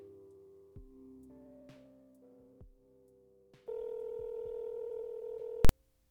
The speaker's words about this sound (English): So, if you're still with me, there's a phone call I've been meaning to make.